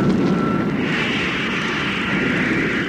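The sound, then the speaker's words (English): An aircraft engine starting up: a thin whine gives way to a loud, broad rushing roar that swells and then holds steady, with no voices. “Then we'll cut in the motor.”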